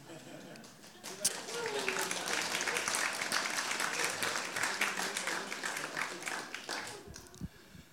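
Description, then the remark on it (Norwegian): An audience breaks into steady applause, a dense crackle of many hands clapping that swells quickly and holds at a fairly even level before tapering slightly at the end. “Trenger ikke klappe for meg.”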